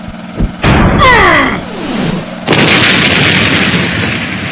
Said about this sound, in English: Oh my god! Metallo just knocked Superman into a fuel tanker, which has exploded and is raining fiery debris all about the area.